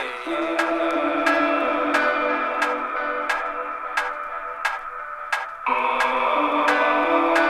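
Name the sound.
clock ticking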